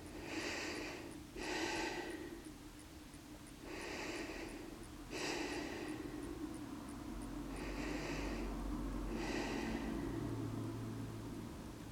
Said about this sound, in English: And begin to notice your breathing. Let's start by taking three breaths together.